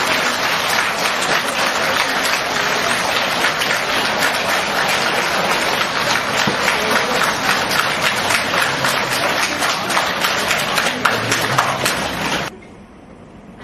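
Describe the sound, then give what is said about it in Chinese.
A large crowd claps warmly and steadily for about twelve seconds, a dense, even wash of many hands, as Lu Junhong is invited to give a Buddhist Dharma talk, then the applause cuts off abruptly into near silence. “让我们用最热烈的掌声恭请尊敬的卢军宏台长为我们慈悲开示。”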